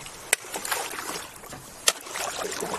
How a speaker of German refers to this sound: Da wird ins Eis gestochen. Richtig Eisschollen.